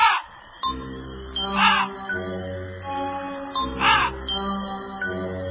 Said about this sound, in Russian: Потащили его лапти в лес, а в лесу темно, звери спят, только вороны. Карр, карр.